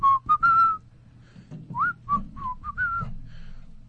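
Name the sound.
person whistling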